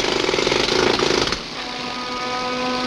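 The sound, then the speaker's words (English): Howard drilling stone in a quarry: harsh, rapid hammering of a drill biting into stone, loud and rattling for a second or so, then dropping to a steadier grinding whine with a sustained mechanical hum. “As they head down into the quarry, Howard continues drilling.”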